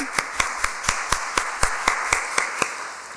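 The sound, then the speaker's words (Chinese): An audience claps for the parents, counselors and teachers present: hands clap in a steady, even rhythm, roughly a dozen sharp claps about four per second, crisp and moderately loud over a faint background hiss, with no talking. “其实很多人做爸妈啦，像我们这种单身的就觉得很可怜，可是很多单身你做辅导的哈，做老师的，你很多时候也在做教养的角色，来我们给他们拍拍手。”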